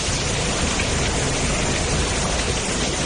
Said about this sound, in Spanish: La lluvia, la dana, que no nos va a dejar como mínimo hasta el miércoles de madrugada, se podría extender incluso hasta el jueves.